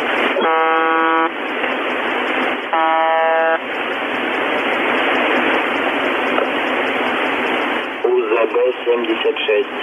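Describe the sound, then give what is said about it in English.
A harsh, band-limited radio transmission carries repeated buzzer tones, broadcast continuously through a keyed microphone, in two stacked-harmonic bursts amid loud static hiss, with a garbled voice breaking through near the end. “Just like I said, that buzzer, like I said, it's being broadcast. There's a keyed mic there and it's just going to town all the time.”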